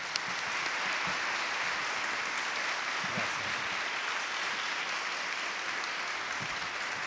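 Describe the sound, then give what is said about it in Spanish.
A crowd applauds the authors at the opening of a meeting, steadily for about seven seconds, a dense, even wash of clapping that stays at a constant loud level throughout, with no voices standing out. “Así que, por la valentía, por lo necesario y por lo prescindible, a mí me gustaría abrir esta reunión con un aplauso para los autores.”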